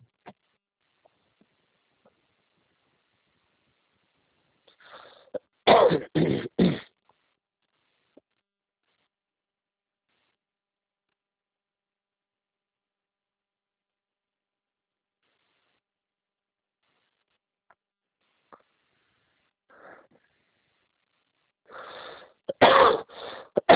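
coughing and throat clearing

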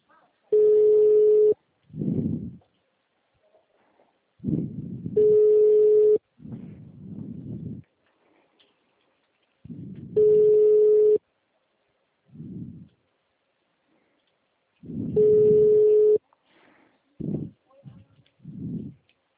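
telephone busy signal

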